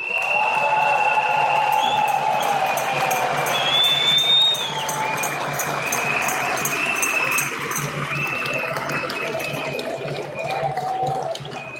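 A large audience claps loudly and continuously, a dense steady roar of hands with faint whistles and crowd noise mixed in, easing only slightly toward the end.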